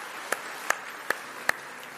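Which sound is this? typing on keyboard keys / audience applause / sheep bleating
audience applause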